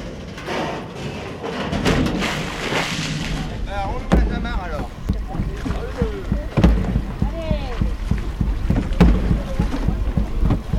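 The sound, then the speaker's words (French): A heavy pirate raft carrying pirates and three drums arrives across water amid steady wind rumble and splashing, with shouting voices and occasional sharp thumps. “Ah, le bateau arrive, le bateau.”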